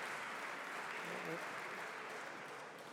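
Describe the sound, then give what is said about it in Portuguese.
Steady, dense applause from deputies fills a parliament chamber during voting, a constant wash of many hands clapping at even loudness with a faint murmur of voices beneath, easing slightly toward the end. “Bom, portanto, podemos guardar as palmas para o final.”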